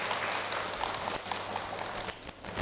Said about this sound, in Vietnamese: Chúng ta cho một tràng pháo tay thật lớn.